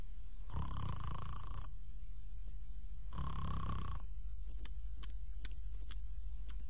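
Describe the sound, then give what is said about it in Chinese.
In a storytelling performance, a performer's voice imitates a man asleep and snoring behind a tavern counter: two drawn-out, rasping snores separated by a short pause, fairly loud, followed by a few faint clicks. “喊了两声没动静，仔细一听，有打呼噜的声音。”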